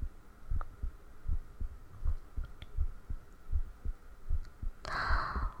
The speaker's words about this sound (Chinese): 哎呀，我约会之前都会特别特别特别紧张。我紧张的手都出汗，心跳就特别特别快，咚咚咚咚咚咚的。